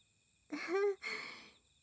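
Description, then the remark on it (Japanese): An insect caught in a mosquito net buzzes in two short, rasping bursts with a brief pause between, over a faint steady high whine. “今の音は蚊帳に虫が捕まった音です。”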